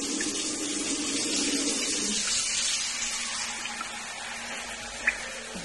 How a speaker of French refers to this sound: En France ou dans les pays riches, on n'a pas de problème. Quand on veut de l'eau, il suffit d'allumer le robinet.